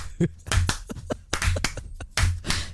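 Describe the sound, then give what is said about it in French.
Scattered hand claps from a small group, coming in loose bursts of sharp, bright slaps with brief gaps between them over a low background hum. “On applaudit vraiment pour toutes ces infos.”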